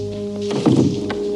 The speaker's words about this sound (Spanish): futbolistas entran en el vestuario. Un soldado cierra la puerta.